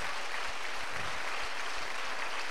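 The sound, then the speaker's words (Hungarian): A crowd claps steadily for audience members aged 21 or younger who have stood up, many hands blending into a dense, continuous wash of applause at even loudness with no voices standing out. “A többi meg tapsolja meg!”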